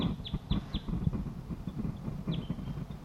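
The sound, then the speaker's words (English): A wild male crossbill calling from above gives sharp, high chip calls, three in quick succession and then one more after a pause, over a steady low rumble. “One wild male and the other wild male above me calling.”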